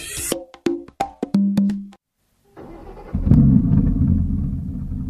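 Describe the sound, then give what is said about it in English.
A few bright musical notes ring out, then after a brief silence the engine of an old car giving someone a lift to work starts rumbling, a steady low drone that grows louder and holds, continuous, with no voices. “Ah, thank you for the lift to work today”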